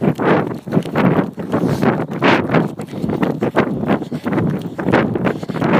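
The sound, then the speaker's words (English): Steady footsteps crunch across dirt and gravel in an even walking rhythm, each step a coarse, gritty scrape, with a light rush of wind underneath and no voices. “I love hearing my feet on the dirt and the gravel.”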